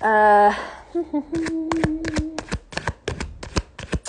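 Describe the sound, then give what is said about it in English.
A voice speaks briefly at the start, then a deck of tarot cards is shuffled, making a quick, uneven run of crisp papery slaps and snaps for a few seconds. “Hang on, let me shuffle here.”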